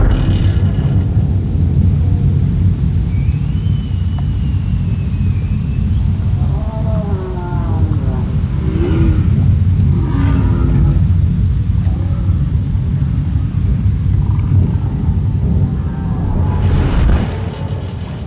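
A loud, steady low roar of boat engines in Glacier Bay in summer rumbles throughout, with a droning hum; midway, wavering higher tonal calls rise above the noise, and a brief hiss bursts near the end.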